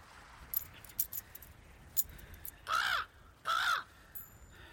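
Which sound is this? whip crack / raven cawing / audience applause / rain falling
raven cawing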